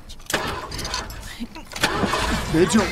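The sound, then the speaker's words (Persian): A Cadillac's engine cranks and turns over, a loud mechanical churn that settles into a rough running rumble, with voices speaking over it. “پاشو بشین جلو، گازشو بگیر بریم.”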